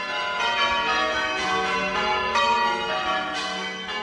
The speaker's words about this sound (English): And then Major dictates the number of bells. There are eight bells in this peal.